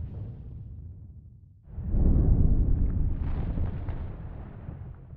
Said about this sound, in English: The air was hot and full of the sounds of the volcano.